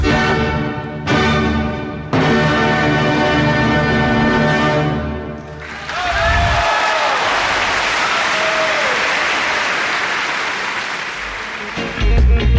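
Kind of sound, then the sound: crowd, audience applause and cheering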